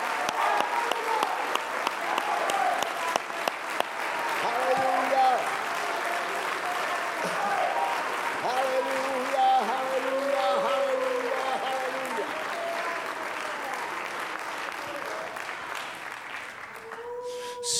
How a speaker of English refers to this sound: Let's stop for just a minute. Let's clap our hands, lift up our voice, and magnify God.